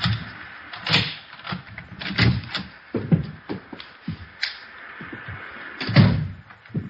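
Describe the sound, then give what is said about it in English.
A front door being unlocked with a key and opened: a series of metallic clicks and rattles, shuffling handling noises, and a louder clunk near the end as the door swings open. “There's the front door key. See if you can work it. I know how it works. You go ahead and open it.”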